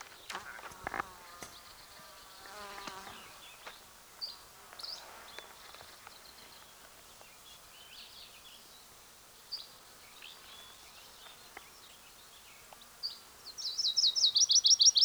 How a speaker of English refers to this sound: There's a probable Virginia's warbler singing. It's either that or a yellow-rumped warbler.